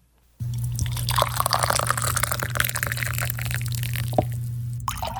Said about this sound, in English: As the angel said, Gideon took the meat and the unleavened bread, placed them on the rock, and poured out the broth. The rock was wet from the broth, and the broth was dripping under the rock.